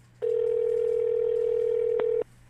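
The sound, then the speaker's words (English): A telephone line tone hums steadily for about two seconds at a single mid pitch, loud and unbroken apart from one brief click just before it cuts off, as a caller phones back after being hung up on. No one speaks. “However, not to be deterred, I called back.”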